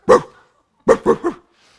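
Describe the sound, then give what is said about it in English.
A big German Shepherd dog next door barks: one loud, deep bark, a pause, then a quick burst of three more barks. No one speaks. “There's a dog next to us. Big old German Shepherd.”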